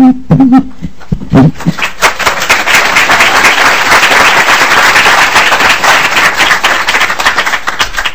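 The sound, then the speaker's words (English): Audience applause breaks out at a committee hearing after a speaker's testimony, following a few brief whoops, then holds as steady, dense clapping from many hands for several seconds, loud and without talk over it. “In general, we don't do applause from the audience.”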